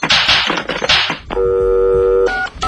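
Telephone keypad dialing tones: after a few harsh, noisy bursts, one long steady dual-pitched beep is followed by a shorter beep at a different pitch, loud.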